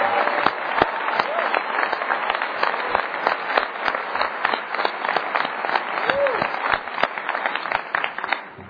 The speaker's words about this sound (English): I hope you'll all give them a big round of applause.